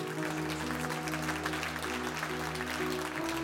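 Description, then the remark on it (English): An audience gives God a hand clap, clapping steadily in a dense, continuous wash of applause, backed by sustained low organ or keyboard tones that shift pitch once or twice beneath the clapping. “Come on, somebody give God a hand clap.”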